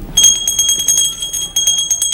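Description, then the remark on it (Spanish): A small hand bell is shaken rapidly and steadily by an elderly woman, its bright, high ringing tones repeating in quick strikes for about two seconds, with no voices. “Después se sientan junto a la anciana que toca la campanilla.”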